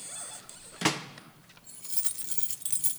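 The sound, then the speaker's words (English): A key rattles and turns in a door lock, with one sharp metallic clack followed by a bright, jingling scrape of metal keys. No one speaks. “To say he wasn't startled would be a lie, but he turned the key, walked in, and lighted his candle.”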